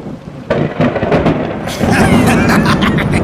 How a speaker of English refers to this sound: At last! The storm is on its way!